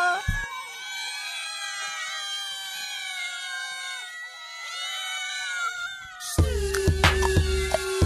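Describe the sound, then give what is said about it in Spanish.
Cats yowl and scream in long, wavering, high-pitched wails that rise and fall continuously, loud, before cutting to a sharp burst of other noise near the end. “¿Pero los están matando o qué? ¿Qué les pasa, pobre gatos?”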